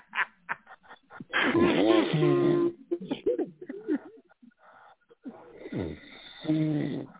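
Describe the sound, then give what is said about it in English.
A man vocally imitates snoring with loud, rasping breaths and snorts, a few bursts spread over several seconds, with brief laughing sounds mixed in. “I can get something in, I can snore.”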